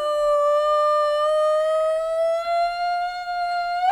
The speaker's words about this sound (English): Then Ulupi screams like a wounded elephant.